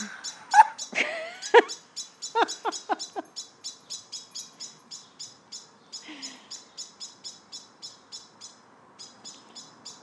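Loud, repetitive bird calls in a steady rapid series of short high-pitched notes, with a few harsher squawks early on, going on without any talking.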